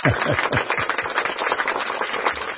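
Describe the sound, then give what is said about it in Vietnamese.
A burst of audience applause for Aladdin after the story of Aladdin and the magic lamp is told, dense and steady clapping from many hands filling the whole stretch at a fairly loud level, with no talking over it. “Các bạn cho chàng pháo tay.”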